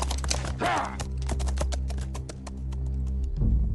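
horses galloping

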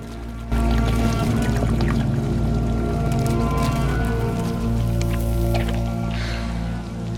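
water flowing and pouring

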